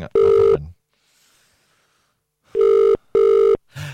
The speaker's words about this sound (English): It's ringing. This is Barry Keoghan's phone number.